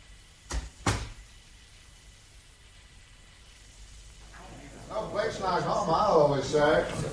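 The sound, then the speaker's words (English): A door is shut with two quick sharp knocks, a latch click and then a firmer thud, followed by a few seconds of quiet before a man starts talking. “Shall I shut the door, sir?”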